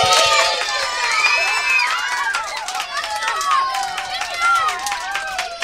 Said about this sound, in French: Tous les animaux, heureux, applaudirent le nouveau roi.